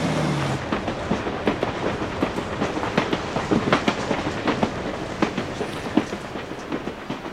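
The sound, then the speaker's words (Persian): A train rolls steadily along the rails, its wheels clacking in an even, repeating rhythm over a continuous rumbling roar, moderately loud with no voices. “هر جا که قطار منو ببره.”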